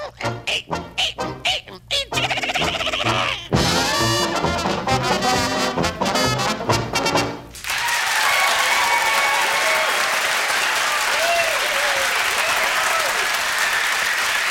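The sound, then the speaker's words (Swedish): The signature tune of the Swedish radio show På minuten on P1 ends and gives way to loud, sustained applause and cheering from the studio audience as they see the day's panel, a dense wash of clapping with excited whoops and shouts rising above it. “Jubelrop som alltid när signaturen förklingat och vår publik kan konstatera vilka det är som sitter i dagens panel.”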